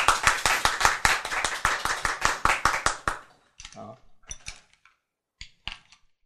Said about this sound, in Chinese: 好，赞不赞？ 赞！ 拍手。